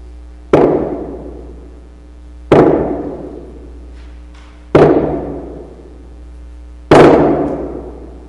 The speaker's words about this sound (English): I remember the hollow sound and the heavy sound of the hammer hitting the wood as I nailed my 95 theses to the door of the castle church on October 31st, 1517. It echoed through the lives of the villagers seeking to be faithful.